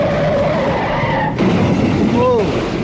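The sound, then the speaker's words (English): A car's tires squeal in a loud skid, followed by an abrupt crash as the car hits a piano, and a second, shorter screech as the noisy scene continues. “I got a guy who hit the piano.”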